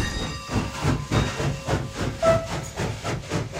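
A train departs from a station with a steady, rhythmic chugging and hissing steam, with a faint whistle-like tone briefly rising above the pulsing rumble; no one speaks.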